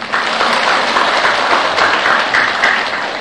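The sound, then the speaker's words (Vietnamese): A crowd of people at a Buddhist retreat class breaks into sustained applause after a teacher announces a gift of two VCDs of a lecture. It is a dense, steady wash of many hands clapping at once, loud and even throughout, with no voices standing out. “Có quà cái vỗ tay à.”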